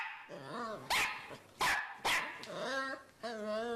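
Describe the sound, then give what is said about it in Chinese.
A voice imitates a dog, the little dog Sonia searching for her owner, mixing whiny, yelping tones with three or four sharp, loud barks in quick succession, clear. “汪汪汪汪汪汪汪汪汪！”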